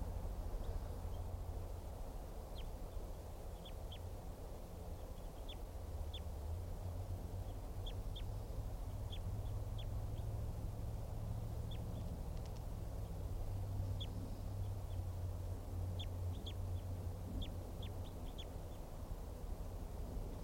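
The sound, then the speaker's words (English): A lone male wild bird, recorded at about 10:15 while flying around, gives short, sharp, high-pitched calls, repeated irregularly in small bursts throughout, over a constant low rumbling background noise. “Just recorded that wild bird and collected the bird.”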